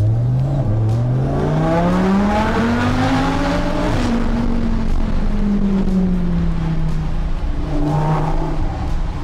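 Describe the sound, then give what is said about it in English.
A car accelerates hard, its engine note climbing steadily in a loud roar that sweeps up in pitch, eases slightly, then rises again near the end, with no one speaking. “Your brain's left about 20 metres behind the car.”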